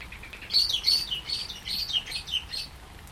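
A female blackbird gives a run of short, high chirps in quick succession in a garden while it rains, not loud, over a soft steady outdoor background with no one talking.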